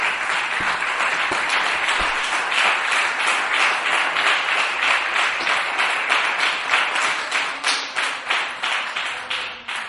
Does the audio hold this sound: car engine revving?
no